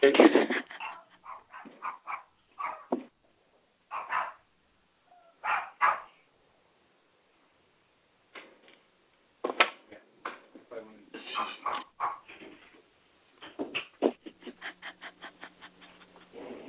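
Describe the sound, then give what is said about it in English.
Dogs bark in short, irregular bursts, mixed with whimpers and yips, ending in a rapid run of quick, sharp barks. The sound is fairly loud and thin, like it's coming over a phone line. “Hold on, let me get my dogs over here.”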